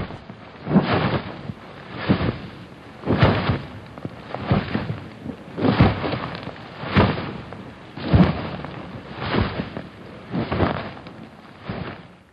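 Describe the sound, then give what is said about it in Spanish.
Giant dinosaur footsteps: about ten deep, booming thuds fall in a slow, steady rhythm, each one rumbling loudly with no voices over them. “Creo que ahí se oyen sus pasos.”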